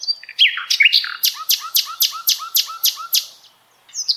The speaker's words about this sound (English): And that is the common nightingale. As you can hear, its song can really fluctuate dramatically in pitch and volume.